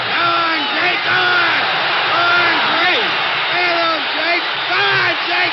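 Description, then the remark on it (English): A large boxing crowd at a LaMotta–Robinson bout yells and shouts in a continuous, loud uproar at the end of the 6th round, many voices overlapping into a dense roar that never lets up. “At the end of the 6th round, the crowd was in an uproar.”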